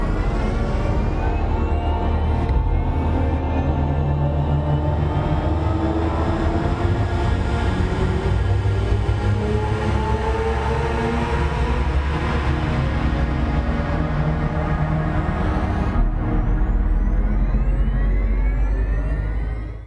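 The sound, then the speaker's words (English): A synthetic electric-car driving sound plays alone: a loud, steady drone of layered humming tones with slowly gliding pitches, swelling and shifting throughout without pause. “I have now an example on how this car sounds like.”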